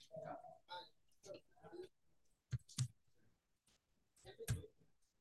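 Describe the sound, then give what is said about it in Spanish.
A few sharp computer mouse clicks, distinct, two in quick succession then another moment later, with soft talking in the background before and around them, as someone clicks the edit button in a software application. “Yo le doy clic en el botón editar. Ingreso el número del CV que se generó.”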